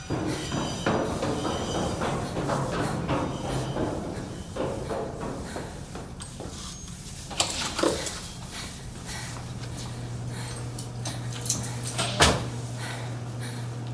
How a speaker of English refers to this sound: There is a large blue door. Swipe your card and get inside.